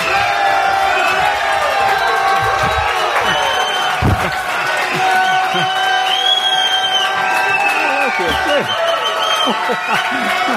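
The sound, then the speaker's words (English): A large crowd at a religious gathering cheers and shouts continuously as its teacher is introduced, many overlapping voices whooping and calling out at a steady, loud level throughout with no break or pause. “What a crowd.”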